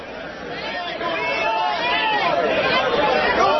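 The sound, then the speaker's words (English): An angry pro-coal crowd at a public hearing shouting over one another, a loud, continuous roar of overlapping yells with no single speaker standing out, building slightly in intensity. “Just a couple of minutes for you to hear what an angry coal thug mob sounds like.”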